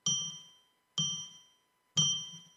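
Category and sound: signal or alarm, bell rung three times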